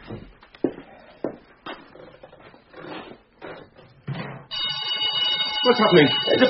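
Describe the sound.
A burglar alarm suddenly starts ringing after several seconds of talking, a loud, steady, continuous electronic wail that keeps going with voices underneath it.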